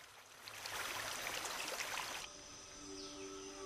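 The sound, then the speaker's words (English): Water rushes steadily over rock in a forest stream, a full hiss that drops off suddenly, leaving faint insect or bird tones droning in the quiet forest background. “Water gushing over a rock in the forest.”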